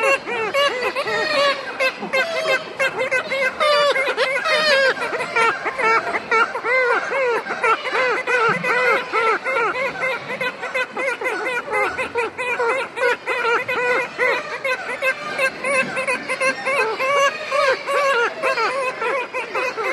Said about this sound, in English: High on the cliffs and high above a gully, kittiwakes make their presence known as gulls patrol the island perimeter.